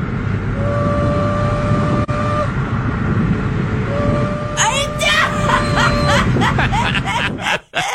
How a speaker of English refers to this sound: Customer states, car sounds like a locomotive. Wait, it does.